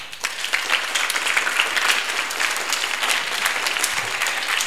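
A group of people applauding steadily, a dense patter of many hands clapping at once, fairly loud and sustained throughout with no voices standing out.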